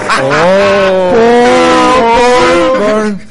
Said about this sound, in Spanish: Vale, está la bocina. En nuestro programa tenemos bocina.